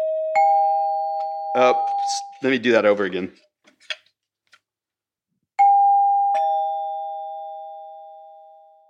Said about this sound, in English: The demise of the door chime was in the 1950s when things were meant to be heard but not seen, and houses were being built with as little ornamentation as possible to save costs.